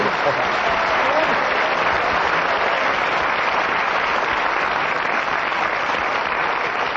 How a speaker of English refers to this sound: that thunderous round of applause, I'm sure, indicates that you enjoyed not only admiring Kenny's skill in keeping going, but the information that he imparted during those 60 seconds.